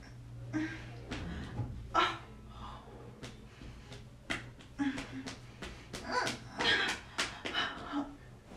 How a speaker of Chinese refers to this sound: 哎呀，这小狗儿。